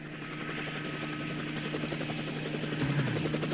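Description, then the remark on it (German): A helicopter's rotor thumps in a steady rapid pulse over a low engine drone, growing slightly louder as it draws nearer, arriving at a mountain village to pick someone up. No voices are present. “Oh, da kommt er ja schon, der Helikopter.”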